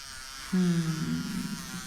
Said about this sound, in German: Du, Gustl, warst währenddessen im Bad und hast dich rasiert. Ich konnte das Brummen vom Apparat hören.